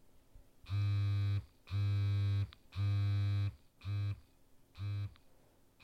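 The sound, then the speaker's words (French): A connected vibrator, remotely controlled through a web page to send a Morse message (SOS), buzzes loudly in deliberate pulses: three long buzzes followed by two shorter ones, with brief quiet gaps between them and no talking. “C'était point, point, point. Long, long, long. Point, point, point. Je crois que ça veut dire SOS.”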